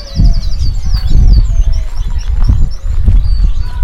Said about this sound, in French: Reprenons la marche dans les allées du parc vers d'autres notes, se laisser porter par le murmure de la nature, de la cour des oiseaux, du gazouillis de la récré.